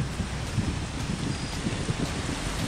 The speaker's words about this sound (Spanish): También soportan la tormenta los campesinos en los tranques.